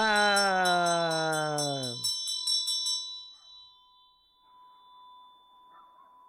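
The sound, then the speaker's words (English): A Tibetan ritual bell with a vajra at the top clangs rapidly for about two seconds, then its bright metallic ring lingers and slowly fades into near silence. “Oh, let's hear it. Ah! That's my bell.”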